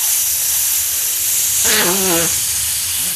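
A balloon is being inflated until it is close to bursting: a steady airy hiss runs throughout, with a brief wavering squeal of air rising through the middle.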